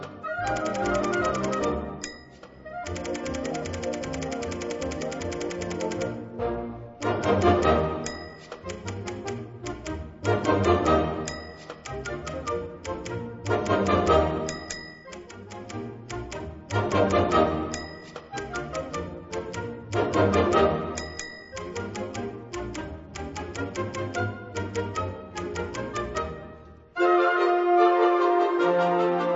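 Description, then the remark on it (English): Rapid typewriter clacking rattles along with a lively concert band, punctuated every few seconds by a bright carriage-return bell ding, all loud and up front before the music shifts near the end. “Do your students know exactly what a typewriter is?”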